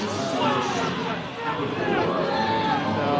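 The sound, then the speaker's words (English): A large baseball stadium crowd jeers and shouts at umpire Mike Corbett after a ball-four call, in a steady, dense roar of many voices, loud and continuous throughout, with no single speaker standing out. “Mike Corbett certainly hearing it from this crowd.”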